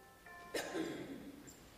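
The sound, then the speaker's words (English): A bell rings once during a sermon, with a sharp struck onset, its bright tones lingering and slowly fading; fairly quiet, with no one speaking. “Your Christ the King is apparently a bell.”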